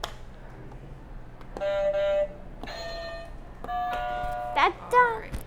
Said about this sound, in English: Do you want to hit the buzzers one more time to finish us off?